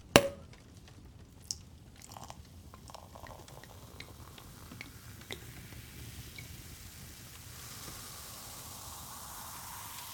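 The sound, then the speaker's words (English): A sharp clink opens, followed by champagne being poured and a steady fizzing hiss of bubbles with fine crackles that settles into a soft effervescent wash. No one speaks. “More champagne? May as well, huh?”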